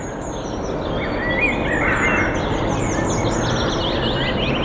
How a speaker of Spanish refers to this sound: Lo que están escuchando de fondo ahora mismo... es el ambiente de un parque en pleno invierno. Pájaros cantando, aire puro, tranquilidad y calma.